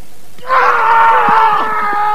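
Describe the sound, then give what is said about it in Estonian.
A loud, sustained martial-arts shout made during a demonstrated feint strike bursts out after a brief quiet moment and holds strongly for over a second, with faint thuds or movement underneath. “Ta arvab, et sa oled juba löönud. Sa oled karjud.”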